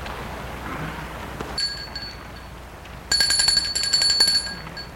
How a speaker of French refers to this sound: Ils vont vers l'entrée de la maison. Gilles sonne à la porte.